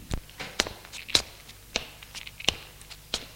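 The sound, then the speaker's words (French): Footsteps of a woman climbing the three terrace steps of an old house toward the front door at night, about six crisp, evenly spaced treads at a steady walking pace, moderately loud, with no talking. “Elle monte les trois marches de la terrasse et va vers la porte d'entrée.”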